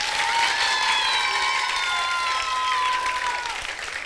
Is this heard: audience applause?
yes